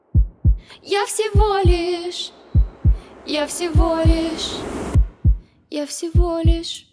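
A steady heartbeat thumps in paired lub-dub beats, deep, repeating regularly throughout while a wavering, voice-like hum drifts above it.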